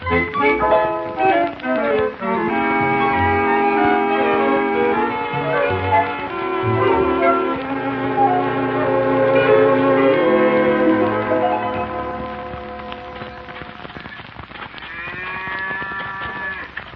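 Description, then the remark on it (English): On a farm, bells ring steadily in a tuneful, overlapping pattern while cattle low underneath, with a drawn-out moo rising near the end. Fairly loud throughout, with no talking. “This is a farm, Leroy.”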